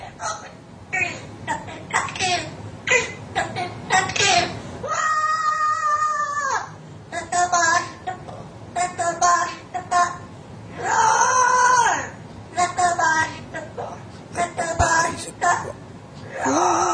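A bird mimics a heavy metal song: choppy bursts of raspy, voice-like squawks broken by two long, strained screeching wails, loud throughout with no other sounds.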